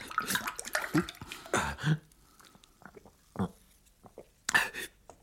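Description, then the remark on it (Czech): Water is poured into a glass in a couple of quick, splashy gushes, followed by quieter pauses and a few short sloshing sounds. “Zoboha, prosím tě, nalej mi trochu vody, rychle vody.”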